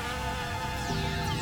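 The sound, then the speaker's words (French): A dense, steady buzzing of bees from a colony preyed on by a flower-mimicking mantis, continuous, a droning hum that swells slightly toward the end with no voices present. “Les abeilles en font aussi les frais.”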